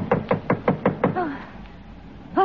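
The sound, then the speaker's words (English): Six firm, evenly spaced knocks on the front door in quick succession by an officer of the Coast Guard, followed by a short vocal sound and then another brief voice after a pause. “Who's there? Oh, it's the front door.”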